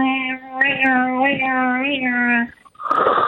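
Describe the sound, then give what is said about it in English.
A voice imitates a cat being sucked into a black hole: a long, steady, siren-like droning tone that wavers slightly in pitch for over two seconds, then ends with a short breathy rush. “For example, I would make the sound of a cat being sucked into a black hole while breathing, which would sound a bit like”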